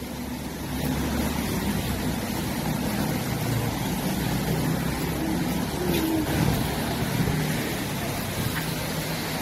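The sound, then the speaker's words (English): Steady rumble of street traffic passing on King Street in Twickenham town centre, a continuous low engine drone with road noise at moderate level, swelling slightly around the middle, with no clear speech. “Again with the advertising facing the traffic.”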